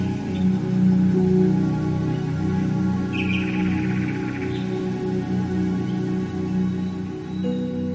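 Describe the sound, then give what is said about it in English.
Soft, sustained orchestral chords from Ottorino Respighi's 1923 work The Pines of Rome play throughout while a recorded bird sings a brief, bright trilling phrase midway through, with a couple of faint chirps around it. “Ottorino Respighi may have been the first composer to use recorded birdsong in his 1923 work, The Pines of Rome.”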